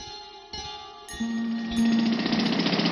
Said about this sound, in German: Seit etwa 1 Uhr heute Nacht rattern die Presslufthohrer und bohren einen Graben quer durch die Ebertstraße hier am Brandenburger Tor. Der Graben ist etwa 1,5 Meter tief und 1,5 Meter breit.